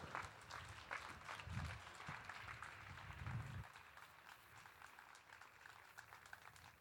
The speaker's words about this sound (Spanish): Él es el concejal presidente de Distrito Centro y Distrito de Salamanca. Quiero pediros un fuerte aplauso, por favor, para José Fernández.